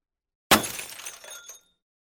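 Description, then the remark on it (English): A glass lantern crashes to the ground and breaks: a sudden crash of breaking glass, a sharp impact followed by about a second of scattering, tinkling shards that fade out, fairly loud with no voices. “I and my broken lantern crashed to the earth, and I remember no more.”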